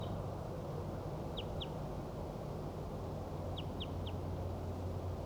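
bird, wild bird calling

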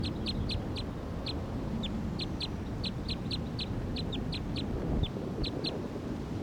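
bird, wild bird calling

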